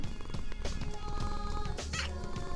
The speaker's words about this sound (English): but before I go, speaking of kitties, someone here wants to say hello.